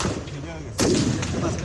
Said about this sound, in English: Islamist militants stormed a police station in the southern Pakistani city of Karachi on Friday, killing at least two people in a hail of gunfire and a series of loud explosions.